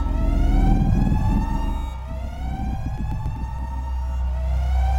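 Ear-splitting alarms blaring aboard a craft hitting turbulence, walls shuddering: a loud, continuous alarm with steady high-pitched harmonic tones over a deep throbbing rumble, holding constant with brief fluctuations and no voices.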